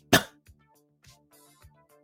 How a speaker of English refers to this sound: Excuse me, as you can hear, I still have my little cough. Very dry cough.